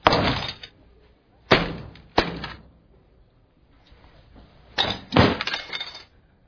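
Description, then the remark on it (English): A company-owned phone is smashed with a series of loud, sharp cracking impacts, about five crunching blows with a brief lull in the middle and a faint rattle of debris between them. “That's a $400 phone.”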